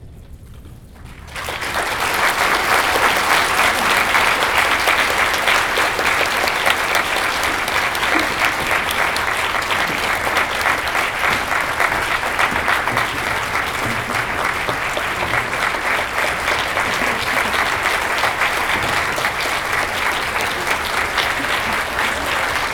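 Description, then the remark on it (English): Loud, sustained audience applause at a conference for two people called up, starting after about a second of quiet and continuing steadily as a dense wash of clapping for roughly twenty seconds. “Before I go, I don't mean to cut your applause short, but before I go,”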